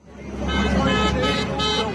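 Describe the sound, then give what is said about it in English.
Several short car horn toots from passing drivers honking in support of city workers protesting a vaccine mandate at a sanitation garage on Staten Island, New York City, over steady street and traffic noise, with a murmur of voices in the background. “Passing drivers honked in support as workers held up slips of paper confirming their suspensions.”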